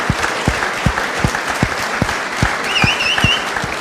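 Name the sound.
audience applause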